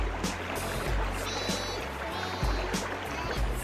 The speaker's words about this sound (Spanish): Nazco y muero sin cesar, y sigo no obstante existiendo, y sin salir de mi lecho me encuentro siempre corriendo. El río.